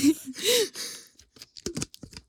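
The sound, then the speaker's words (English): Someone drinking water from a Nalgene bottle: a few breathy, wet swallowing noises, then a series of short clicking gulps in quick succession, fairly quiet. “You can hear the water being gulped.”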